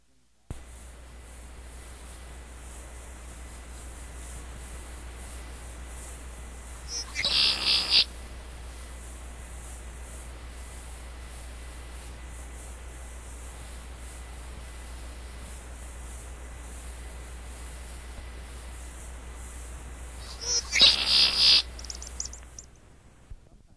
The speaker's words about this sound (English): Everyone is familiar with the male red-winged blackbird's conkeree.